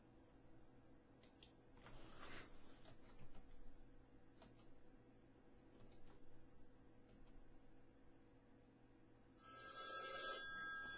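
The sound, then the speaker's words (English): A Skype call ringtone rings out over a low steady hum, with scattered faint keyboard clicks; near the end a brighter, louder electronic ring tone comes in. Nobody speaks. “So let me interrupt his phone call and jack his Skype ass up.”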